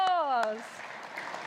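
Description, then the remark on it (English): A held, sliding sung note cuts off, and the singing group gives itself a round of applause, a dense, crackling wash of clapping at moderate volume that continues to the end. “Give yourselves a round of”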